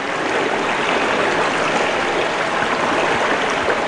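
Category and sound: nature, flowing river water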